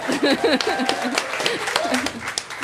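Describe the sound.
A short burst of clapping, a few pairs of hands in quick, uneven claps, mixed with voices talking and cheering over it.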